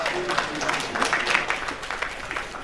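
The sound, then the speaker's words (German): An audience applauds a presenter after a talk, steadily, a dense wash of many hands clapping at even loudness throughout, with no voices standing out above it. “vielleicht auch nochmal jetzt kurz einen großen Applaus.”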